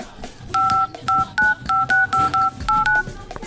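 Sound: telephone number being dialed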